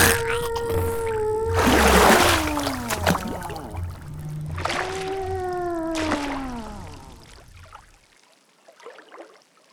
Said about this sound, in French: J'ai parlé, jusqu'à ce que la baleine nous crache.